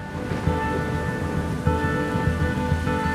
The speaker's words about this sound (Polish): Potem przychodzą mecze w deszczu. To był prawdziwy wodny festiwal.